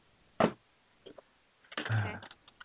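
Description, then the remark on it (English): A deck of angel tarot cards being shuffled: a quick snappy flutter, a few faint taps, then a longer papery riffle of cards sliding together, with no voices. “And let's focus here and do a little shuffling. Shuffle, shuffle.”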